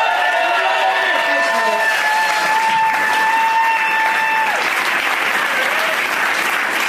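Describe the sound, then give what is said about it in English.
A crowd applauds for Brad Elwood, clapping steadily in a dense, sustained burst, with a few high whoops and cheers ringing out over the clapping before it begins to thin toward the end. “One more time for Brad Elwood.”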